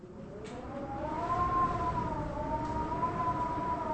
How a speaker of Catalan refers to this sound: Aquí tenim dues màquines de vent. La grossa per al vent fort. En Cal la fa giravoltar unes quantes vegades. Sentim un tifó esgarrifós.